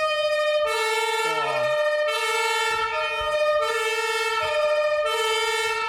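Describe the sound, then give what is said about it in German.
A loud airport fire engine siren (Martinshorn), switched on with a red button in the vehicle, sounds alone in a two-tone pattern, alternating between a lower and a higher harmonic-rich tone roughly every second, steady and piercing throughout. “Blaulicht, kann ich auch mal anmachen? Natürlich, dort der rote Knopf. Genau, einmal rum und zu dir hinziehen. Dann ist Martinson.”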